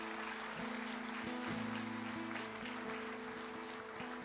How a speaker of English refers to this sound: And give the Lord one more good clap offering if you would.